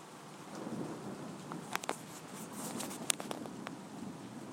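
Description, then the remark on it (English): Steady rain hisses outdoors with scattered sharper drips and taps, while a faint, low rumble of thunder sits underneath. No one speaks. “So I'm just keeping this running, see if you can get any more thunder.”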